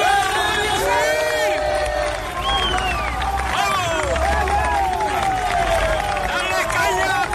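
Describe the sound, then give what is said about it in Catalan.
A large crowd cheers police, shouting 'valientes' and 'vamos' with the 'A por ellos' chant in the background, in a dense, overlapping roar of many voices, chant-like calls rising above the din and a low rumble underneath, loud and continuous throughout. “Crits de valientes, de vamos, amb la Por Ellos de fons, que també es van repetir, no només a Andalusia, també a Toledo, Santander, on els policies agraïen el suport amb claxons i amb sirenes.”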